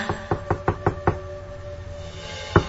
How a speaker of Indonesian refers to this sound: terdengar suara ketukan di pintu apartemenku.